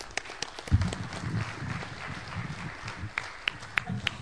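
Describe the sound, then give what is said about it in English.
An audience at a gun rights conference applauds for about four seconds, a dense, steady wash of clapping with a few sharper individual claps standing out near the end. “So I want to give yourself, you all give yourself a round of applause.”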